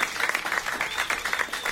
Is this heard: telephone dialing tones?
no